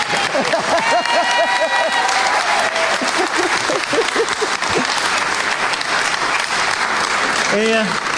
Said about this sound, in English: You're getting a lot of clapping.